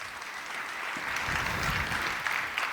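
Sustained audience applause welcoming a speaker to a talk on climate change and the planet-friendly web, a dense steady wash of many hands clapping at even loudness throughout, with no voices over it.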